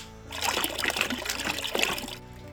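Water melted from snow pours in a steady, splashing stream for about two seconds, moderately loud, then stops abruptly; it is being poured for sheep and pigs to drink. No voices are heard.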